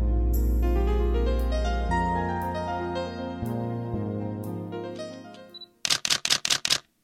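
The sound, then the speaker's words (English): Sustained tonal music plays, then fades out and gives way to five quick, sharp computer mouse clicks in an even, rapid run as someone clicks around a website looking at images, fairly loud, with no talking. “So forgive me if you can hear a bit of clicking and stuff.”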